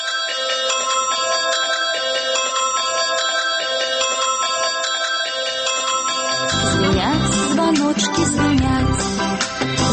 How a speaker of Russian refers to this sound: Звонят звоночки.